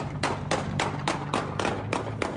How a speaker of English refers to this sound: This shooting here was in the afternoon, a sunny day, and the bullets started flying. A busy public plaza with restaurants and stores on McCowan Avenue in Milner. Watch and listen as the gunshots ring out.